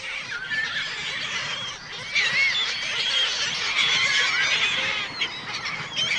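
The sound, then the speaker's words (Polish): A noisy flock of black-headed gulls, many harsh, squealing calls overlapping in a continuous chorus with no pauses and no voices. “Czy to możliwe, że w lubelskiej dzielnicy Czechów można zobaczyć i usłyszeć mewy śmieszki?”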